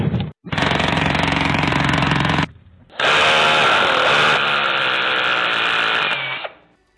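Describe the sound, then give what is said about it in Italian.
Two long, loud bursts of harsh jackhammer-like drilling, the first about two seconds, the second longer after a brief pause, steady with no voices, as the character Martello Pneumatico drills a one-square-metre gash in the bottom of a canoe with its teeth. “Martello Pneumatico era piombato sul lado de zona e aveva trapanato uno squarcio di un metro quadrato sul fondo coi suoi proverbiali incisivi a reazione atomica.”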